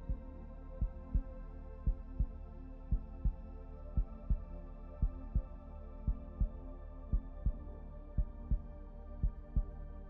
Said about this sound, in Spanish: Y vamos a ese primer latido de vida.